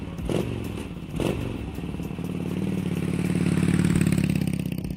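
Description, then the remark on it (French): A motorcycle engine revs, its throaty drone climbing steadily in pitch and loudness as it rides off, being stolen by would-be buyers during a test ride, after a couple of sharp mechanical clacks at the start. No one speaks. “Adem et les autres volèrent la moto de Junior.”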